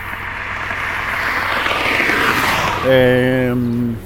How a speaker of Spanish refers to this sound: Mientras tanto escuchamos los sonidos, ¿no?, de los autos pasando altas velocidades por la carretera, por esta ruta.